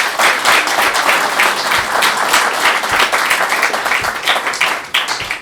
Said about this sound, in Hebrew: אה, יפה, אבל הם יודעים את כל המסכת, הם ממש תלמידי חכמים, הם יודעים דברים שבגיל שלהם, אתה רוצה לתת להם כפיים פה, תלמידי חכמים.